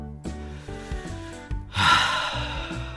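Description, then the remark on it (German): A slow, deep breath is drawn in and then let out in a long, airy exhale, with soft sustained tonal music playing underneath. “Super, dann macht es euch bequem, zieht euch die Decke bis zur Nasenspitze hoch, atmet nochmal tief durch, so.”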